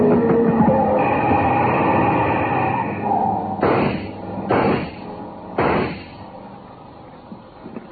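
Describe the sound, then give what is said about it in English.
A car engine roars loudly, coming hard at the speakers with a dense rumbling drone, then three sharp, heavy bursts crack out over the fading motor noise. “Hey, that car. Coming hard at”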